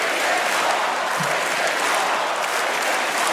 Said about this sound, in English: As the crowd cheered, Goldberg became overwhelmed for a moment, placing her head on the podium as her husband reached out to comfort her before she addressed the crowd.